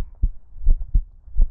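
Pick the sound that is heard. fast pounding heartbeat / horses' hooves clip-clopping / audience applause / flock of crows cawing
fast pounding heartbeat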